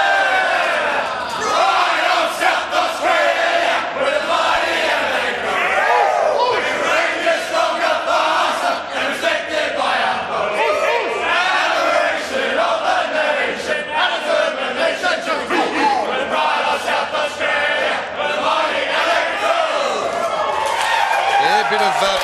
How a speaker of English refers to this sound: take in their song and the celebrations for their 29-point victory